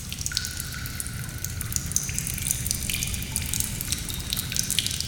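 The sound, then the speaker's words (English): Water drips steadily deep inside a dark cave with no light, with many small plinks falling at irregular intervals over a constant low rumbling wash. No voices. “Here, it is quiet and you can hear the sounds of dripping water.”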